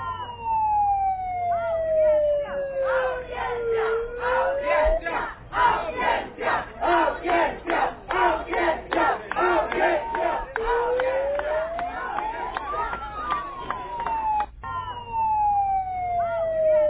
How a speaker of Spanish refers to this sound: Miren, escuchen el grito de los sindicalistas, ¿verdad? Y dicen ellos, audiencia, queremos audiencia. Eso es lo que estaban gritando, para que lo reciba por una audiencia el ministro de salud.